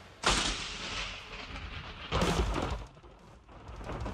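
A lightning strike sound effect: a sudden, sharp crackling crash that rolls into a long rumble, then a second loud burst about two seconds later before fading. No one speaks.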